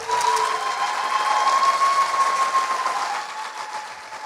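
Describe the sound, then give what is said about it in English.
An audience applauds in a dense, steady wash of clapping with a thin sustained whine running through it; the applause holds for several seconds, then eases off slightly toward the end. “All right, one round of applause.”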